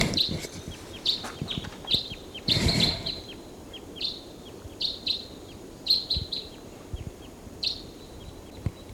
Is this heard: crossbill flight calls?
yes